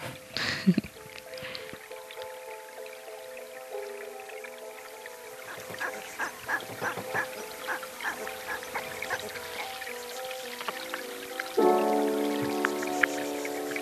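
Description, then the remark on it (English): Flowing water carrying sediment, heard as a dense crackling patter of tiny clicks and taps over steady humming tones, growing louder and fuller near the end, with no voices. “But what we would call a water flow, what we think is the water sound, is actually the sediment sound.”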